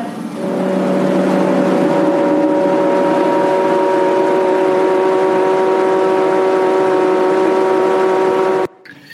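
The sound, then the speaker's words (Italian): A stage foam machine hums loudly and steadily for about eight seconds as it drops foam from the theatre grid onto the stage, covering the performers like a white curtain; its motor drone holds several even tones over a wash of airy noise, then cuts off abruptly. “Ecco, questo estratto termina con il brusio della macchina della schiuma che dal graticcio fa scendere questo materiale che invade la scena e copre gli interpreti come una specie di sipario bianco, schiumoso”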